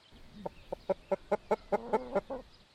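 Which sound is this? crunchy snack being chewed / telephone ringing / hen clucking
hen clucking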